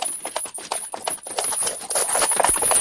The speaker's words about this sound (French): Soudain, on entend venir de loin un cheval au trot.